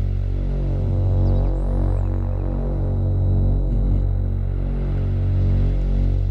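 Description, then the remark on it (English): A thick, steady Moog synthesizer drone from an app demo, with added white noise and a typical filter-cutoff buildup, hums low and dense, slowly throbbing with a regular pulse, while a faint wash of white noise hisses above it. No one speaks. “Moog drone sound with some noise and added white noise to it, and you know the typical buildup, the filter cut off.”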